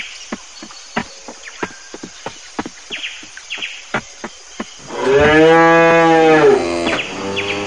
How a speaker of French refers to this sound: Ah, la vache.